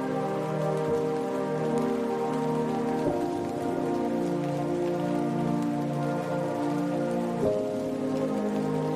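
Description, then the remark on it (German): Soft, steady trickling like gentle rain pattering on a surface, continuous and even throughout, moderately quiet, with no voices. “Hörst du das leise Rieseln, das wie sanfter Regen klingt?”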